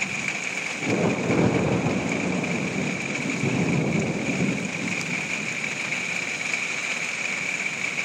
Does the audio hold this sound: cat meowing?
no